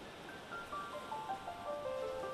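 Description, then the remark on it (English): A steady wash of ocean waves fills the short stretch at moderate volume, with faint high gliding tones drifting downward over the surf; no one speaks. “Act 1, Scene 1, The Ocean Where They Met.”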